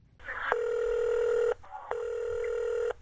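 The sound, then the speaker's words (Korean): Two long electronic ringback tones, each about a second, separated by a short pause, heard clearly over a phone line with faint dialing-like blips just before the first ring, as a North Korean defector phones a moving company to arrange a Saturday move. “어딘가로 또다시 전화를 합니다.”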